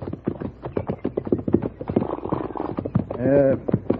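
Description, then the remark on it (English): Steady clip-clop of horse hooves on hard ground as riders travel on horseback, a quick, continuous rhythm of hoofbeats that runs throughout, with a brief tonal cry rising over it near the end. “We can water the horses and rest a spell if you like.”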